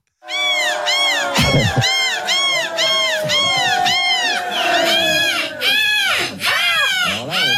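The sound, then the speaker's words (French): Contestants at a microphone in a bar shout overlapping imitations of seagull cries, a dense chorus of repeated high, arching squawks that stays loud and continuous throughout. “Hein, il y a un moment, on était plus proche du coq, je trouve, que la mouette.”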